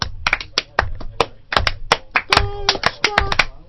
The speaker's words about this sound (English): Now they deserve slow clap. Yes, they do.